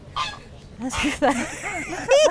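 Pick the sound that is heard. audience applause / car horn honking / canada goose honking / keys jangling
canada goose honking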